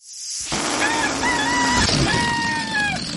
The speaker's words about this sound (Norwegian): Der hadde vi lyden av... Ja, det var en hane. Det var en hane.